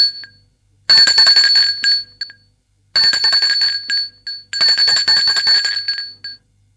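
A doorbell at someone's home rings in three loud bursts, each lasting about a second or more with short pauses between, giving a shrill, high-pitched metallic ring. No voices are heard.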